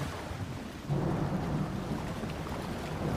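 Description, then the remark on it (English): A steady roar of stormy wind and churning, crashing sea waves during a storm, with a deep low rumble that swells after the first second and then stays loud and continuous throughout. “As the storm above grew and grew, they could see the wind was whipping and the waves splashing and crashing down on themselves.”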